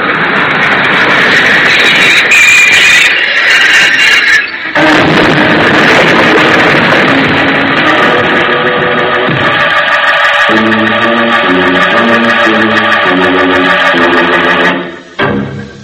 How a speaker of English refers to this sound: See? The train's come in.